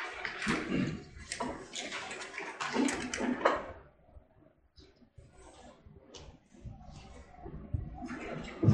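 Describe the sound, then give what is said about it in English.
Water is poured as the speaker gets himself some water, in a few loud, splashy gushes over the first few seconds, then fades to faint trickling and soft clinks before another rush of water near the end. “Let me have to get some water myself.”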